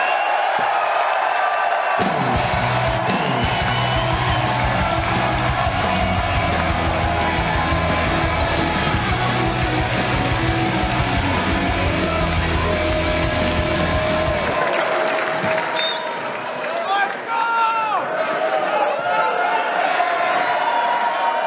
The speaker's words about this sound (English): He's one of the best fucking comics working in the world. Clap it up for Tim Dillon.